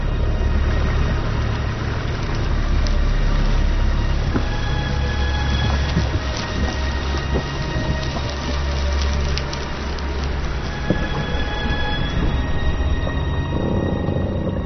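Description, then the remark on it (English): A deep, steady roar of meltwater plunging down a moulin, a shaft in glacier ice opened by the meltwater, loud and unbroken, with a heavy rumbling low end and a constant hiss of churning water throughout. “A shaft in the ice opened by meltwater as it plunges into the depths of the glacier.”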